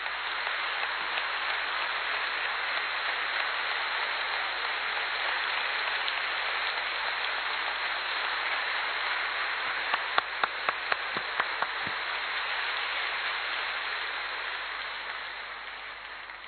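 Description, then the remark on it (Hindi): A crowd claps loudly in a dense, steady roar of applause that lasts about fifteen seconds. Several sharper single claps stand out near the end before the sound tapers off. No one speaks. “तो सभी थोड़ा सा एक बार जोरदार तालियां बजाएंगे अच्छी तरह से।”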